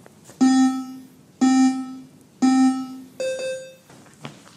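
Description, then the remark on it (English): Beeps of a shuttle-run fitness test at level 1, which speeds up with every beep: three identical low, buzzy electronic tones about a second apart, then a fourth, higher-pitched tone. They are loud and steady, with no talking. “And it speeds up with every beep.”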